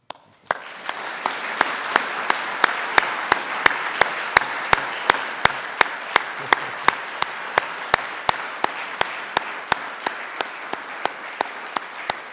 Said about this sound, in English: Let me say that I always give my audience a round of applause for sitting there and listening.